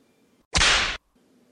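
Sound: whip lash strike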